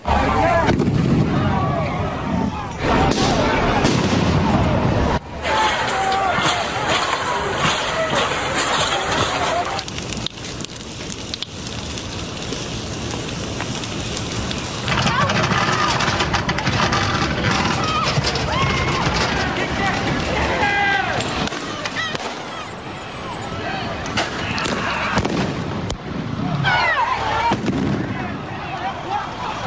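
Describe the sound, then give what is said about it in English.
Gunshots crack out in bursts at night on a street in Kenosha, Wisconsin, sharp loud bangs scattered over half a minute, with commotion and voices shouting in the background. “Fireworks. Oh, no, not firecrackers. Two people died.”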